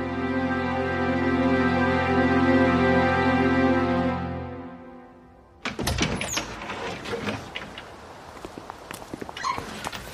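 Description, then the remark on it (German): A sustained, droning musical chord fades out, then a door opens with a sharp knock of wood, followed by scuffing footsteps and small clunks as it swings shut. “Wer war das eben an der Tür?”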